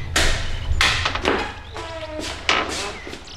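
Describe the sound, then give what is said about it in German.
Several heavy metallic knocks from a door knocker on the door of the Buddhist Center in Rocky Beach strike at uneven intervals, each with a sharp crack and brief ringing tail, over a steady low hum. “Justus betätigte den Türklopfer.”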